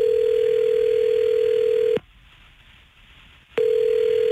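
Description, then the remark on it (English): A phone line ringback tone of an outgoing call placed during a radio broadcast: a steady, loud electronic hum rings for about two seconds, pauses briefly, then starts ringing again, with no voices. “Let's call Maya.”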